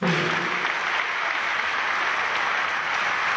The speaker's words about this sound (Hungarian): Percekig állva tapsolták a belgrádi Zseleznik stadionban Nataša Kovačević-et. A tiszteletére rendezett Crvena Zvezda 6 Agro Uni Győr barátságos mérkőzés előtt.